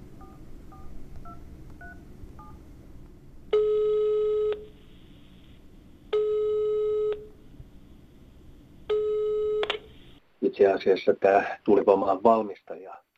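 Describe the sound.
A few quick dial tones, then three long, evenly spaced ringback tones buzz over a quiet line as a call is placed to a noise expert at the state environmental administration, before a voice picks up and starts talking.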